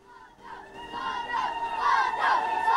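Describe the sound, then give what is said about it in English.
A large crowd shouts, praises and cheers outdoors as people run along ancient streets while Saddam walks among them, many voices blending into a swelling roar that grows steadily louder over a few seconds. “Outside, crowds of people run along the ancient streets, praising and shouting as Saddam walks proudly amongst them with Sajida at his side.”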